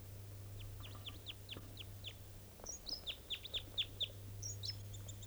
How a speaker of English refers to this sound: Bird 387 is very excited. That's her calling. It sounds like there may be a type 2 bird around here. So, yeah, there's one in the top of that Doug fir. That was the song phrase in flight that it gave up on approach.